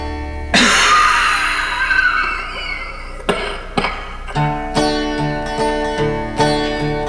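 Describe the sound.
A voice imitates the harsh coughing of a 14-year-old cotton mill worker who breathed lint: one big, rasping burst, then two short hacks, followed by a run of steady, rhythmic tonal notes, fairly loud.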